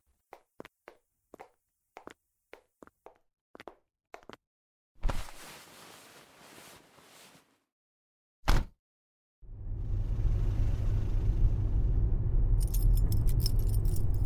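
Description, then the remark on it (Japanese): Keys jangle and clink, a door thuds shut twice, then a steady low engine rumble sets in, like riding inside a car as it is driven along. No voices are heard. “車で走ってるんだから、危ないわよ。”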